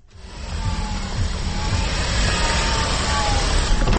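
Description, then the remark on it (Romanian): A car engine runs steadily on bioethanol in a car that can run on either petrol or bioethanol, in Austria: a deep rumbling hum that swells in the first half second and then holds at a constant, fairly loud level throughout. “Deci acum mașina este pe bioetanol, da?”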